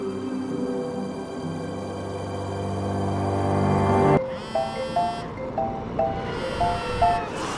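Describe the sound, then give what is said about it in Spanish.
A loud, harsh electronic buzzing drone suddenly cuts off, giving way to a repeating pattern of short, bright alarm beeps from a phone alarm. “Mi cerebro apenas pudo procesar que el sonido provenía de la alarma de mi teléfono.”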